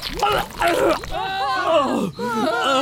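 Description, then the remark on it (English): A voice loudly imitates vomiting on the spot after breathing in the aroma of an opened crisp packet, with a string of strained retching groans and gurgling heaves that rise and fall over a few seconds, broken by a brief gasp. “And with that, Nathan used his sharp jaws to cut open the precious crisp packet before breathing in the aroma and vomiting on the spot.”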